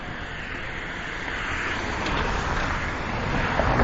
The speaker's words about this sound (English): A bunch of cars driving really fast in the rain.